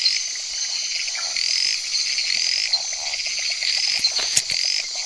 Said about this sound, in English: She's heading towards the loudest call because loud calls come from big frogs, and big is best.